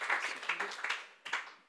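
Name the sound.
audience clapping hands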